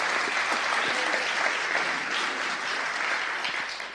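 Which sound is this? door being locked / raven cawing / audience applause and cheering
audience applause and cheering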